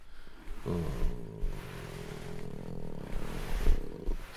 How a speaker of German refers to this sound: Katzenstreicheln fällt darunter. Es gibt nichts Entspannenderes als das Schnurren einer zufriedenen Katze.